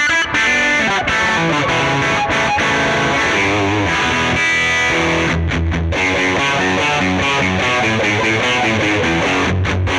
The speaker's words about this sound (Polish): No nie, to nie jest na pewno ideał przesteru, ale warto było to sprawdzić, ok?